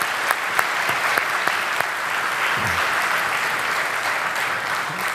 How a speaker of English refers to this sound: So maybe we can give all of those people a round of applause too.